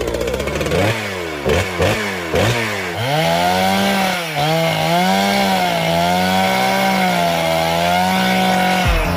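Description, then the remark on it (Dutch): A loud motorized saw revs in about four quick rising bursts, then settles into a sustained, wavering buzz for several seconds before cutting off abruptly: a sawing sound-effect jingle introducing the show's 'zaagplaat' segment halfway through the show. No voices are heard. “Tijd voor de zaagplaat.”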